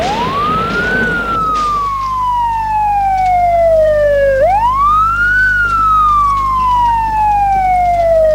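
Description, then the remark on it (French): A loud police and fire emergency siren wails as vehicles respond to an accident, its pitch sweeping slowly down and then back up, with a steady low vehicle rumble underneath and no voices. “Police, pompiers.”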